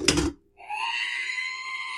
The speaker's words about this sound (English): R2 is now loaded into the back of an X-Wing unit, Luke is flying, and they take a shot, and they take some damage, and right after they get hit, R2 makes that screaming noise.